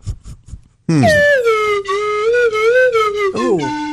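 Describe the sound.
A voice imitates snake charmer music, holding a loud, nasal, wavering melody for about three seconds after a few short, soft low sounds at the start.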